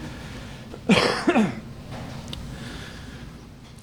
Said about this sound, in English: Oh, I coughed and then I moved everything. Hold on.